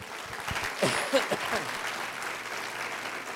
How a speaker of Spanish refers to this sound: Aplauda al Señor.